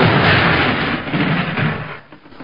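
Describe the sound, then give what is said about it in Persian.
A deep, rumbling explosion from far off rolls on for a couple of seconds, its booming echo reverberating off the mountains and slowly fading away. No voices. “همین موقع صدای انفجاری از دور آمد و انعکاس صدایش در کوه ها پیچید.”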